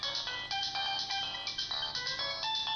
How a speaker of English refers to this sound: Ah, the phone.